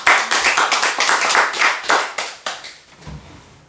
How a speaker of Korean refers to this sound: 그 본인을 위해서 우리 격려의 박수.